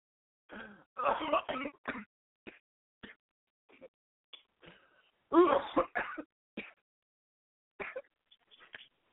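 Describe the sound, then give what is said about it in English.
Harsh coughing and throat clearing come in two heavy bursts, separated by smaller scattered hacks and gasps, as a man struggles to clear his airway after almost choking on a grain of rice while eating Chinese food. “I almost choked on a little grain of rice.”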